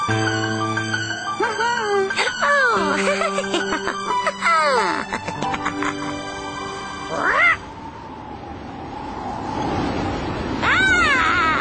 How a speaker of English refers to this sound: But how the witch wailed and how the cat spat when the wind blew so wildly it blew off the hat.